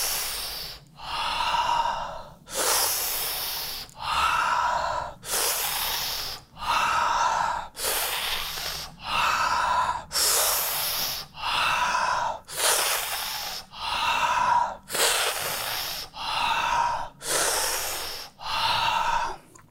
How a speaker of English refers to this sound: Third round, we're going to do breathing through the mouth, open mouth breathing, inhale and exhalation. So let's start the breathing with the mouth and breathing as if you're sucking the juice of life through your mouth.